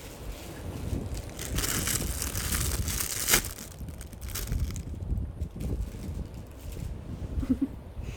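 A bag of chips crinkles and rustles outdoors on a windy day for several seconds, with irregular crackly bursts and a soft wind-like hiss underneath, and no one talking.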